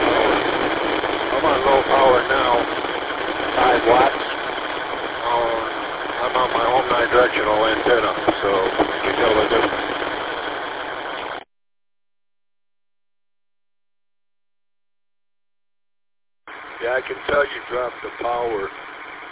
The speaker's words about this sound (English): Sounded pretty good to the repeater, but that engine noise starts to cover you up a little bit. If it wasn't for that noise out there on the repeater, you'd be coming in really good there,